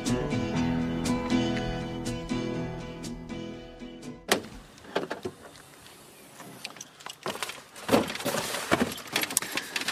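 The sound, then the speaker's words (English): Objects clatter and knock around, irregular thumps and rattles of someone rummaging through a car trunk looking for a little stool, following a steady humming tone at the start. No talking. “Looking for a little stool in the trunk of my car here.”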